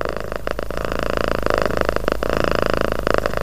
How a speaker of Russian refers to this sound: И, пожалуй, самый распространенный образ колыбельной песни – это котенька-каток, способный своим урчанием убаюкать, усыпить младенца.